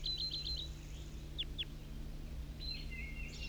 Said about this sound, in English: These are all calls of the wild bird. A red male.